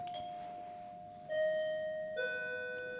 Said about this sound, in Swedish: Och då hör man inte alltid att det ringer på dörren. Men lyssna här nu, jag har en liten extra grej.